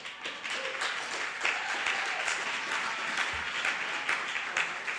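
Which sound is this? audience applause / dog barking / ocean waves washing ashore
audience applause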